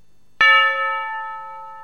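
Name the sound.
church bells ringing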